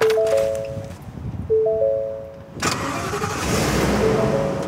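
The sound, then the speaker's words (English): The engine of the Burlington Police Department's Emergency Response Vehicle, a police response truck, cranks with a whining starter, pauses, cranks again, then catches and settles into a steady running rumble. No one speaks. “The department spent about $250,000 to buy and outfit this truck. They call it the Emergency Response Vehicle.”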